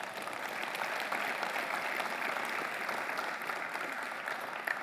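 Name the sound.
audience applauding loudly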